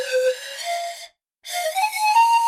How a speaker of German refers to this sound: Das, mein unwissender Freund, ist eine Panflöte. Wieso hast du eine Panflöte in deinem Katzenkorb versteckt?